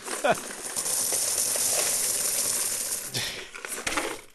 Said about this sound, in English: Wait, it's a big paper box filled with coins. And wait, there's more.